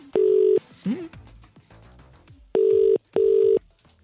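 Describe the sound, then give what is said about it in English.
A telephone line's ringing tone sounds as a call is placed, in steady, loud electronic bursts: one burst, a pause, then a quick double burst, with faint background noise between and no one speaking. “Right, I'm ringing now.”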